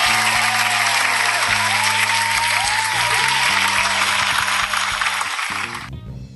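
A crowd claps steadily in a dense wash of applause, with a low musical tone playing underneath, before the clapping thins and fades out at the end.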